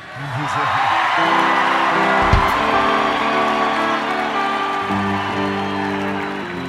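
A concert crowd in Raleigh cheers and applauds in a steady, loud wash of clapping and shouting that lasts several seconds, with scattered whoops and voices rising out of the roar.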